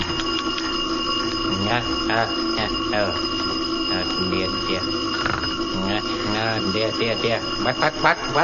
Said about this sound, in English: What? Oh, drat it. The alarm clock again. Much too early. I remember. Turn it off.